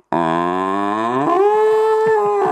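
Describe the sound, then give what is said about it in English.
Comedian Mario Rosenstock imitates a cow, letting out one long, loud drawn-out moo with a nasal tone that shifts pitch partway through, heard alone; it is the cow tone he used for his impersonation of Gerry Adams. “So it was the tone of a cow that I actually used to do Gerry Adams.”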